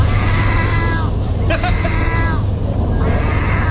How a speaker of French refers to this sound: en Turquie, les amis, véritable histoire aujourd'hui, on peut croiser des mouettes qui miaulent. Et vous voulez savoir, et vous voulez comprendre, et surtout tendre l'oreille... Ah bah oui, pour savoir ce que ça donne. Véritable son, c'est ça.